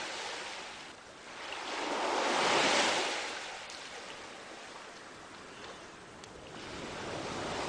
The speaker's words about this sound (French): Vous vous promenez à présent le long de la rive, bercé par le chant des vagues.